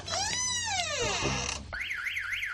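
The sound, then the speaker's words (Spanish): A loud electronic Securitas security alarm blares, first with a swooping, falling whoop and then a rapid warbling up-and-down tone, continuous and piercing with no talking. “He visto luz y he entrado y mira, han saltado las alarmas.”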